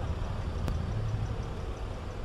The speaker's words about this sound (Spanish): Recogido en la Gran Vía madrileña, un sitio por antonomasia donde pasa un montón de tráfico